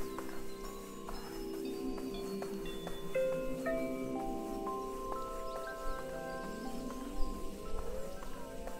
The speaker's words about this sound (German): Hier wird es jetzt wieder ein bisschen leiser, da hört man wieder ein bisschen mehr die Vögel zwitschern.